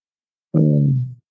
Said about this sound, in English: That's why we're here, to meditate and get on the foam roller and make old grown man noises all together.